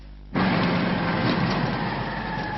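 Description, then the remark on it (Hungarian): A moped car (microcar) engine suddenly starts droning and keeps running at a steady, loud pitch, a continuous buzzing motor with no voices. The vehicle's Hungarian distributor arrives at court in it. “A bíróságra is egy moped autóval érkezett a járművek magyarországi forgalmazója.”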